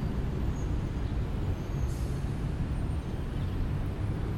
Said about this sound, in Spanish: pero rodeado de ruidos, porque está la avenida 9 de Julio y mucho tránsito vehicular. Así que nos vamos a poner aquí a medir un rato lo que es desde un punto alejado relativamente del tráfico, lo que es igualmente el protagonismo de sus ruidos.